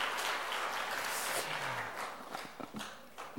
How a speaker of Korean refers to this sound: 우리 박수를 한번 환영하겠습니다. 예. 잘 오셨습니다.